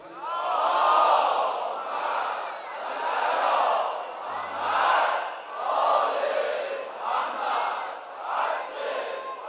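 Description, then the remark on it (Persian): A large audience in the Mohammad Rasulullah mosque chants salawat together on the eve of Tasua, dedicated to the shrine of Abolfazl, in loud, swelling unison, the voices rising and falling in repeated rhythmic waves over roughly nine seconds. “از این مسجد محمد رسول الله یه صلواتی هدیه به حرم مطهر ابوالفضل کنید.”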